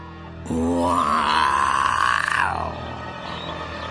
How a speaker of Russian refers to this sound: Снова зарычал лев.